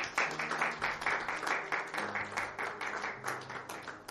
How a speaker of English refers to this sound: He's God. Clap your hands again, children of God.